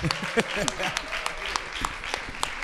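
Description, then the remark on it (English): An audience applauds to praise the Lord, many hands clapping in a dense, steady burst, with voices calling out over the clapping. “Let's give the Lord a big round of applause.”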